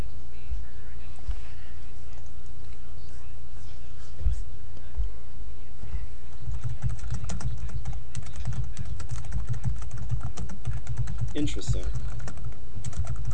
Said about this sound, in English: Who is typing? It's very loud. It sounds like this.